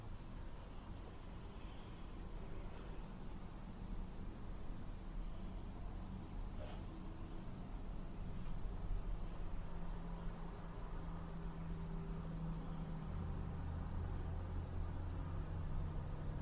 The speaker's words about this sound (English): You know, this person that hears the traffic.